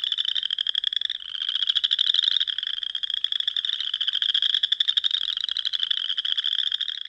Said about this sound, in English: Each species has their own unique call, the chorus frog.